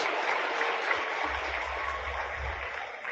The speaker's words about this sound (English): Ibrahim Traore, I think we all seen him on our socials. You can clap for Ibrahim.